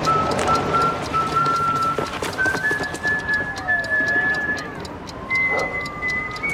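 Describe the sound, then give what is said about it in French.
The cowboy character Omar Little from the series The Wire arrives whistling a slow tune of long, steady high notes with a few stepped pitch changes and one swooping slide, over constant background noise and scattered clattering sounds. “Alors, quel personnage célèbre de la série arrive en sifflant?”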